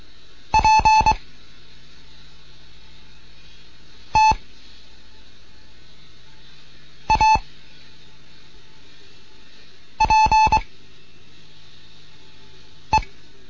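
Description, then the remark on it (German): Morse code practice tones from a beginners' Morse lesson transmitted from Bremen, with exercises featuring the letter P: short, steady, mid-pitched beeps keyed in separate groups, some clusters of several quick dits and some single blips, separated by pauses, with no voices. “Hier ist Digot 1 Kilo November in Bremen mit einem Morseunterricht für Anfänger.”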